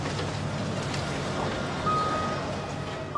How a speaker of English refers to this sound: The bus mows down thick brush and leafy trees as its track wheels power over them.